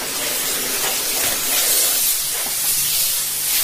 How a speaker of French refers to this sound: Avant, il fallait frotter, il fallait chercher les taches. Tandis que maintenant, juste un petit coup de vapeur.